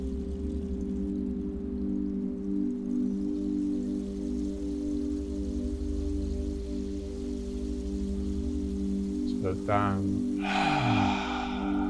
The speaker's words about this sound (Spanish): Vamos a respirar profundo, cerramos los labios, vamos a mantener la respiración.